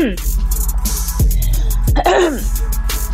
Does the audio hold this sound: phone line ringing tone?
no